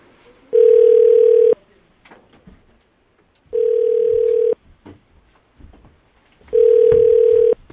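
A phone ringback tone of a call being placed home sounds three times, each a steady one-second buzz with a bright mid pitch, separated by about two seconds of near silence with faint background noise.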